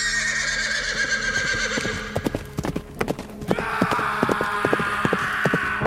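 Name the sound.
horse neighing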